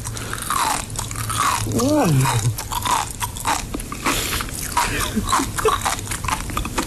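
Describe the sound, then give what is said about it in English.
Crisp chewing of sea grapes: rapid wet pops and crunches repeat steadily throughout, with a brief murmured vocal sound partway through. “This is, have you got the one where the chewing on the sea? The sea grapes?”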